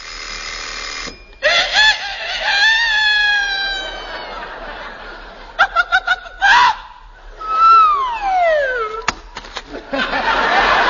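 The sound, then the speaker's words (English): At 5 a.m., a burst of rapid, loud bell-like ringing from an alarm clock, followed by a long, warbling rooster crow that slides downward in pitch, with fainter whooping calls earlier. “You see, at 5 a.m., the alarm clock rings, the rooster crows, the hen wakes up and lays an egg right in the frying pan.”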